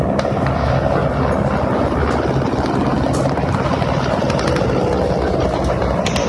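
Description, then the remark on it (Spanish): A steady, loud mechanical roar of Russian military helicopters, hundreds attacking in waves as Moscow's troops cross the border into Ukraine, a dense low rumble with a rough, churning texture that fills the whole stretch without pause. “Misiles rusos han comenzado esa madrugada a impactar en varios puntos de Ucrania y las tropas de Moscú cruzan la frontera con carros blindados y con centenares de helicópteros que atacan en oleadas.”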